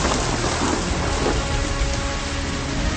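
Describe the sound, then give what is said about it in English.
Heavy rain pours down steadily off a sandy outcrop, a dense, continuous hiss of drops drumming on surfaces, with a faint low rumble underneath and no voices. “Come on, rain!”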